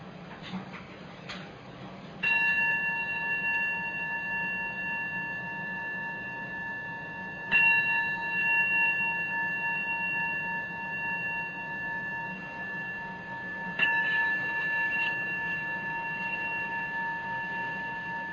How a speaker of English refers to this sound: And we practice listening to the sound of the bell.